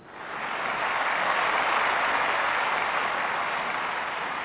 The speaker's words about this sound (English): So, fellas, give him a nice, warm applause, round of applause, something like this.